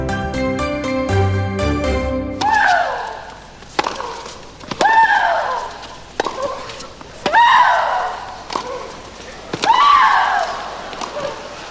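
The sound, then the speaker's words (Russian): After a brief musical jingle, tennis player Maria Sharapova lets out a loud, drawn-out shriek with each sharp racket strike, about six grunting cries in a steady rally rhythm. “Я думаю, что эти крики знакомые, ну, большинству наших радиослушателей.”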